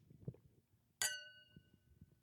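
A single bright clink of wine glasses of Ascent Merlot touching in a toast, its high ringing tone lingering and fading over about a second against quiet room noise.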